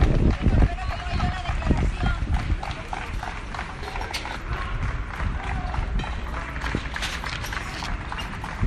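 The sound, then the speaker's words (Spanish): Sustained, dense applause from a group of deputies outside court in Spain, seeing off Major Trapero as he leaves his court hearing, a steady patter of many hands clapping at once, with voices and shouts mixed in throughout. “A pesar de los aplausos, un pequeño grupo de 3 o 4 personas comenzaron a acusarle de traidor”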